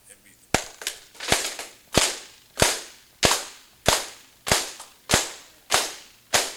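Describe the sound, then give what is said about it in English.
A steady series of about a dozen sharp hand claps with palms together, demonstrated in a lesson on hand clapping, crisp and fairly loud, each snapping quickly and decaying briefly, evenly spaced roughly twice per second with no talking. “Now, whether you know it or not, you just had a lesson in hand clapping. You have the different sounds, the different tones of the hand clap.”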